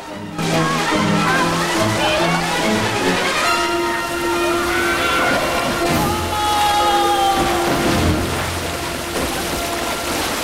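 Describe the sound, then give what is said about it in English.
Loud, churning splashes and sloshing water fill the scene almost continuously as people shoot out of openings into a pool in a vast cavern, with excited voices shouting and crying out over the turbulent noise. “Twist and tumble onwards until they each shoot out of a different opening into a pool in a vast cavern.”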